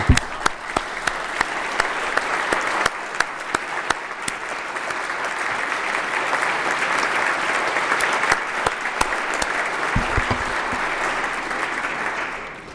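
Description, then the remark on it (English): An audience applauds Senator Edward Garrity steadily for about twelve seconds, a dense wash of many hands clapping with a few sharper individual claps standing out, fading slightly at the end. “I don't know, but I think we're going to give him a good round of applause.”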